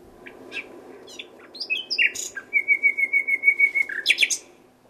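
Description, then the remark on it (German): Song of an older, multi-year male nightingale: a few varied whistles and chirps, then a rapid, even run of about a dozen repeated mid-high notes, ending in sharp higher chirps, heard alone without voices. “Und das Pendant vom Mehrjährigen klingt dann.”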